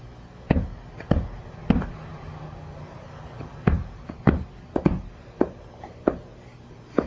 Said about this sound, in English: Bang, bang, bang, bang. You're banging the ball.